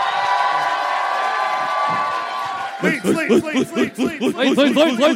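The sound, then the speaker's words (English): A live audience in Leeds cheers for its own city in a loud, sustained roar for nearly three seconds, then the noise drops away as someone starts speaking over a faint lingering crowd murmur. “Usually people don't cheer their own city.”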